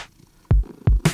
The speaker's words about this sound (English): And Sydney is on my lap. I don't know if you can hear her purring.